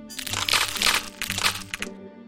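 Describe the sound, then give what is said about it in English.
Duck eggshells crack open in a quick series of crisp snaps and crunches as six eggs hatch in a nest on a farm, coming in three or four bursts over about two seconds, with no voices. “Suddenly, 6 eggs hatched.”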